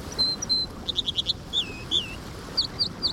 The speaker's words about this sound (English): This American dipper thrives in fast-flowing streams. It's a plump steel-gray songbird about the size of a robin that's constantly bouncing on its heels as it hops along the bank, kind of like a swimmer ready to make a splash.